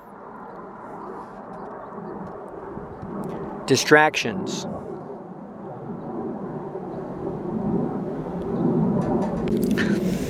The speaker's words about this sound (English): I hear all these sounds around me now. There's an airplane up above. Can you hear that?